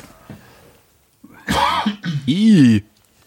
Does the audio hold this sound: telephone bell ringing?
no